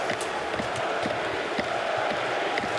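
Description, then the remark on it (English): A large home arena crowd in Montreal roars steadily, its massed voices rising in a loud, rhythmic chant of "Fleury" with scattered claps and shouts, a dense wall of sound throughout, as the clock winds down on an ice hockey game marking Fleury's 500th win. “And listen to the crowd. Fleury, they're chanting.”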